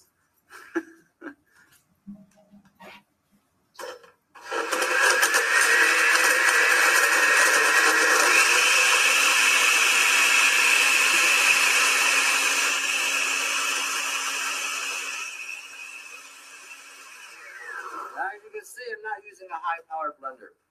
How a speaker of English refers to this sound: I'm going to add my distilled water. Okay. Sorry. All right, I'm going to blend this up a little bit. Give me a second.